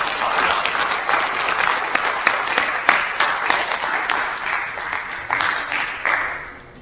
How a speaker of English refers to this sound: Bring them up with a round of applause.